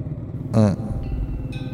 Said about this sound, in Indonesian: Belum sempat terjawab, tiba-tiba Cindy membunyikan klakson motornya. Katanya kalau lewat jalan ini harus bunyiin klakson atau buang puntung rokok.